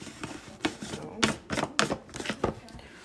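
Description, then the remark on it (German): A blender jar filled with oats, cocoa powder, cinnamon, baking powder, banana and milk is set down onto its motor base, making a run of hard plastic knocks and clicks in an uneven sequence as it settles into place. “So, das kommt jetzt auf den Mixer.”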